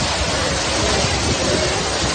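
Torrential rain from a storm in Castellón pours down in a dense, steady roar of hissing water, loud throughout, with no voices and no distinct thunder crack standing out; the downpour has flooded streets.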